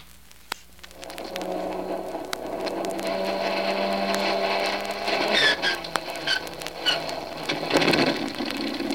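vehicle, aircraft engine starting up

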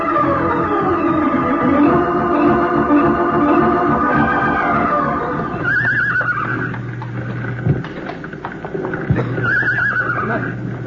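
animal, frightened horses whinnying

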